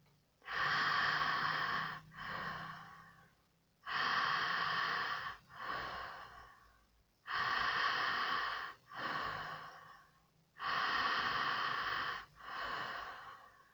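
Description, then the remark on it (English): Deep, rhythmic breathing in and out through the mouth into the chest, hands at chest level: four cycles of a loud, airy inhale followed by a softer exhale, evenly paced about every three and a half seconds, with no talking. “Keep breathing in and out through the mouth and bring your hands back to the level of the chest and continue breathing into the chest and out from the chest.”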